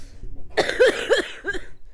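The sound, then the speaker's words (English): A rough, phlegmy smoker's cough: three harsh hacks in quick succession, fairly loud, with no talking around them. “If I have yellow teeth and a terrible smoker's cough, that is my business.”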